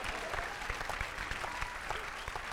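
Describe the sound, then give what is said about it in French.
A steady burst of applause from a group, dense overlapping claps with no break, moderately loud throughout and with no voices over it. “On peut applaudir la pile dans l'urètre, ouais.”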